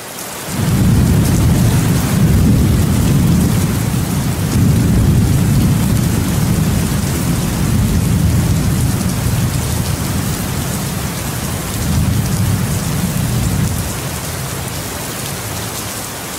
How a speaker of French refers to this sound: Voilà pourquoi, depuis ce jour, sur Terre, après chaque longue période de beau temps, le dieu tonnerre éveille le dragon paresseux endormi en grondant très fort dans ses oreilles pour lui rappeler que l'heure est venue de faire pleuvoir.